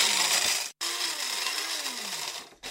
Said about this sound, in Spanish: Entonces yo lo que hago es con el molinillo de café echo las almendras y las molo en el momento, que además tiene un aroma mucho más fuerte.